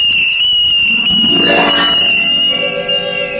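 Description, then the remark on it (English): A shrill little tin whistle blown in one long, steady, piercing high note that holds for several seconds, loud and unbroken, with a brief rising swoop of lower sound partway through. “And I took advantage of every opportunity to express my defiance through its shrill voice.”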